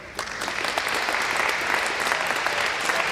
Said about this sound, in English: And give a big applause.